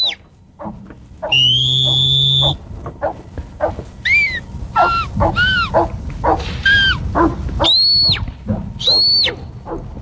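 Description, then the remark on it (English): A shepherd's shrill whistle commands to working dogs, with different whistles telling different dogs what to do: a long steady tone, then a run of short rising-and-falling calls, ending with two high sharp blasts, loud, with outdoor background noise. “and to give them different commands with different whistles as well.”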